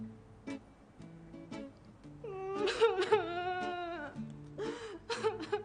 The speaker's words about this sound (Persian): گریه میکنی؟